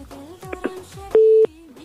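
busy tone

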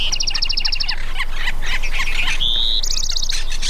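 birds squawking and chirping

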